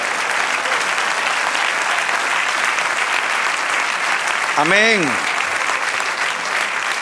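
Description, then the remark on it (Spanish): Sustained applause from a large church audience applauding the Lord, dense, steady clapping, while a voice briefly calls out over it near the end. “Dale otro aplauso al Señor.”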